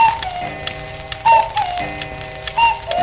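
A cuckoo clock's two-note call sounds twice over a dense, steady clatter of ticking clocks, with a faint whistly hum running underneath.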